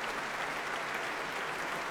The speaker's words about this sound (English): And now all the members of the BBC Philharmonic standing to receive the applause.